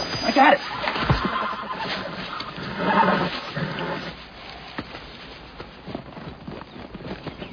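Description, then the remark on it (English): A horse gives a short, shrill whinny near the start, followed by shuffling, clattering movement and muffled background noise. “Our horses are done in.”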